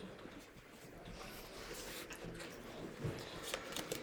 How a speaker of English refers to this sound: You guys hear me shuffling these cards around. I don't know who laid down what, all right?